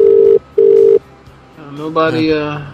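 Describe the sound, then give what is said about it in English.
A telephone rings with two loud, steady electronic tone bursts in quick succession, like a line ringing on the other end. A voice starts talking right after. “I still hear ringing, and but it's off on the display.”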